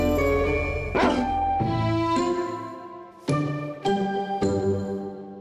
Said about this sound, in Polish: I pojawił się odgłos psa, bo dzisiaj w Zamkolandii rozmawiamy o zwierzętach